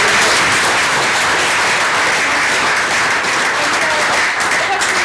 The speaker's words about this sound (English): Yeah, round of applause for that.